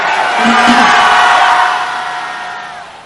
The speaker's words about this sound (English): If you receive that, let me hear you shout hallelujah.